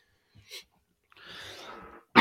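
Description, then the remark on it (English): A brief throat sound, then a long raspy throat clearing, ending in a sharp, loud cough, with no talking. “Sorry, cough drop ran out.”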